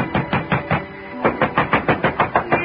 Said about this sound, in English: But ringing his bell and pounding on his door got me nothing.